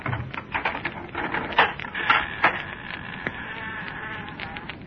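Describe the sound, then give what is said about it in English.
A door being opened by a butler: a few sharp clicks and knocks from the latch, then a drawn-out, high, wavering creak from the hinges, with no voices. “Come along, open the door.”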